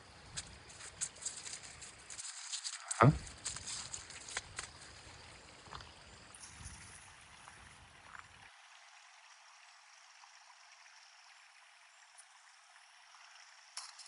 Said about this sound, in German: Rechts was plätschern ist, aber ich glaube nicht, dass das der Wasserfall ist.